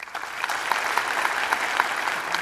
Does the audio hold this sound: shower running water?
no